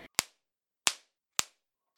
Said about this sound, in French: Pétard de papillote.